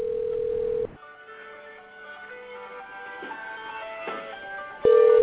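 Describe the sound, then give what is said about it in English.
A telephone rings over a phone line, a layered electronic tone sustained for several seconds, bracketed by a steady flat line tone at the start and end. Nobody speaks. “It's ringing.”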